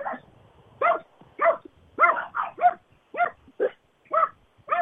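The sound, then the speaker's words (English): Dogs in a backyard in the evening, the household's dogs and a neighbor's dog running up and down the fence, bark back and forth at each other in a lively exchange, about ten sharp barks in quick, uneven bursts, with short pauses between them and no talking. “My neighbor has a dog, and our dogs just love to play around with it, running up and down the fence and barking at each other.”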